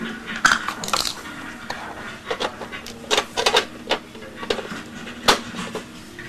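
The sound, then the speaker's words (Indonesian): A cooking pot is handled and set down, making an irregular run of light clanks, taps and scrapes, with a few sharper knocks and no one talking. “Taruh di atas kompor.”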